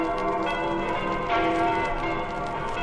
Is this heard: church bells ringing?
yes